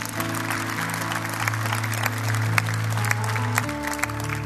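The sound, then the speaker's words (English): A church audience gives one more round of applause: a steady, sustained, dense wash of clapping over held organ or keyboard chords, with a low sustained bass tone running underneath. “Give them one more hand.”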